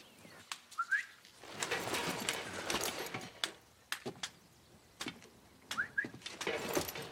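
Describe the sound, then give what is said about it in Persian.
Two short, rising whistles blown by Torquemada as a signal, as soldiers move away from a closed door, sound about five seconds apart over a busy background of scuffling and sharp clattering knocks, with no one speaking. “صدای سوت تورمادا سربازا از جلوی در بسته کنار میرن.”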